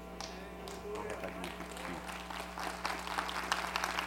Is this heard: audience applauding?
yes